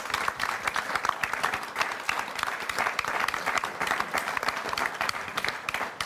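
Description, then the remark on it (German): An audience applauds steadily, a dense wash of many hands clapping at an even, sustained loudness throughout, with no voices standing out. “Also, es war ein sehr applaudierfreudiges Publikum.”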